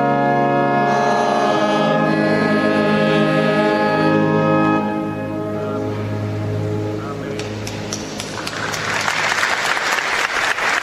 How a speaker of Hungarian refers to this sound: Kedves Mária Rádió hallgatók, a szokott módon nagy tapsviharral köszönik meg a Szent Atyának a mai katekézisét, amelyet a Szent Péter Bazilikában tartottak, valószínű a nagy meleg miatt.